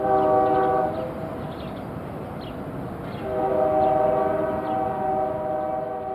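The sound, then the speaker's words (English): A train horn blares in two long, steady blasts separated by a short pause, over a continuous rumble of rolling rail cars and clanking from a busy industry train yard in La Puente. “I was raised in La Puente, blocks from the industry train yards. This was the sound I fell asleep to every night.”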